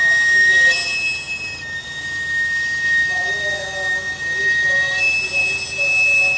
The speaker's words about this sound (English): They cook in the woman's stainless steel cart as she pushes it up the street. She runs the steam out a long whistle to announce her presence.